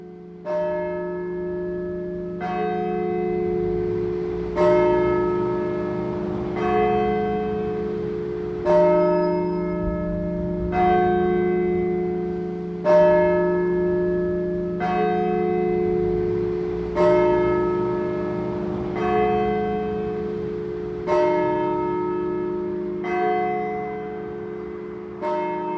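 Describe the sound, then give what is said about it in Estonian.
The bell of St. Paul's Church in Tartu, Estonia, recorded before the church's major renovation, tolls steadily, about a dozen resonant strikes spaced roughly two seconds apart, each blooming into a long humming decay that overlaps the next. No voices are heard. “Saadet jääb lõpetama Tartu Pauluse kiriku kella helin suure remondi eelsest ajast.”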